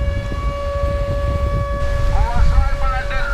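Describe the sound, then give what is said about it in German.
A steady air raid siren wails on a sustained tone over rumbling wind and surf at a bathing beach in Novorossiysk on the northern Black Sea coast, in the middle of the day. It is loud and continuous, with faint voices rising briefly near the end. “Luftalarm mitten am Tag am Badestrand von Novorossijsk im Norden der Schwarzmeerküste.”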